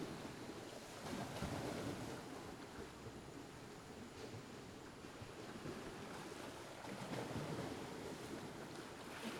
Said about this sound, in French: De petites barques à tête de monstres rouges et bleus se bercent au gré des vagues. Le vent apporte les embruns salés.